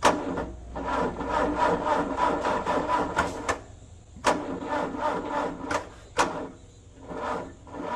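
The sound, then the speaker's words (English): The newsroom Zamboni's engine cranks over and over without catching at 3 a.m., a rapid, rattling mechanical churn broken by a few sharp clacks, steady and fairly loud throughout with no voices. “This was me at 3 o'clock this morning trying to fire the Zamboni.”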